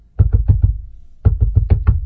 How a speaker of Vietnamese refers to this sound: Bỗng nhiên có tiếng gõ cửa kèm theo tiếng của ….